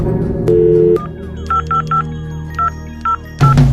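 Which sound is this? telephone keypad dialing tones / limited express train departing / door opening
telephone keypad dialing tones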